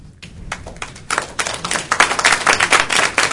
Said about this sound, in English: Please hold your clapping, please.